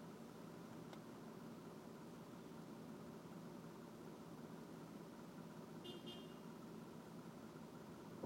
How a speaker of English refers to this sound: I'm stuck in traffic here, and all the cars surrounding me have Uber stickers in their back window.